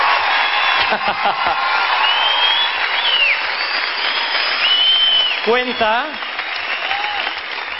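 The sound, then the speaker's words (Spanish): A large crowd applauds loudly and steadily, with scattered whoops and cheers rising above the clapping throughout, sustained. “Denle el mayor aplauso de la historia si lo creen.”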